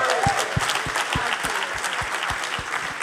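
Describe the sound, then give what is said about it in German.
A church audience claps for one another for being there, many hands overlapping in a dense, sustained patter, with a regular rhythmic beat of low thumps running underneath throughout. “Wirklich, gebt euch einen Klatschhopper, dass ihr hier seid.”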